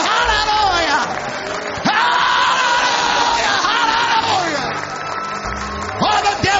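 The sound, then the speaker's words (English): A crowd shouts and yells in loud, excited praise to God during a church testimony service, crying "Glory!", many overlapping voices rising and falling in exuberant cries that carry on without pause for several seconds, full. “I feel like shouting a little bit. Glory!”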